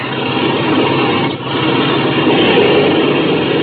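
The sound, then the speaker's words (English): A loud, steady engine roar fills the whole stretch, continuous, as an airplane's engine is revved to clear it before takeoff on a plane with a front cockpit, with only a brief dip partway through. “Okay, clean out that engine while I climb into the front cockpit.”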